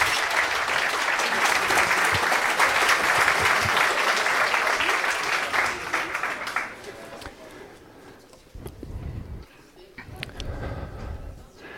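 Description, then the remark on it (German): An audience claps for presenters of an intro and game made in Scratch, a loud, dense burst for several seconds, then the applause thins and fades, leaving a few scattered claps and low rumbling movement at the end. “Applaus für euch.”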